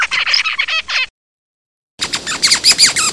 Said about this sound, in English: And then the last one is the call of the zebra finch.